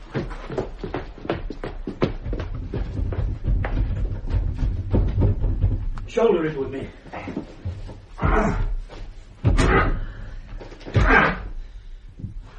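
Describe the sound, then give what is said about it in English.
Repeated heavy thuds and rattling knocks against a stuck front door, with strained grunting voices bursting out in the second half as people shove their shoulders hard against it, trying to force it open. “Shoulder it with me. It's not going to open, is it? No, it's not.”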